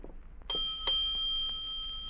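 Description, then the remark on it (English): A hotel doorbell in San Diego rings out twice in quick succession, two bright chiming tones that linger and slowly fade, with a low background rumble and no voices. “Shall we ring the bell?”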